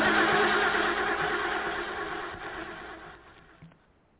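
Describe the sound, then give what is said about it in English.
The president's car, out of gas, cranks and sputters without catching, its rough churning engine noise loud at first and then fading away into quiet near the end. “Looks like the president's car is out of gas.”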